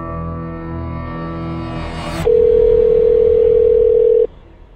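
A buzzy, harmonic-rich phone tone gives way to a loud, steady telephone dial tone that holds for about two seconds before cutting off abruptly. No one speaks.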